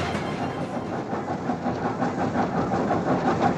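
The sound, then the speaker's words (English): A train rolls steadily along the rails in Alaska, a continuous loud rumble with faint rhythmic clatter from the wheels, with no voices; newspapers are delivered to area residents from the moving train. “newspapers for area residents from the moving train.”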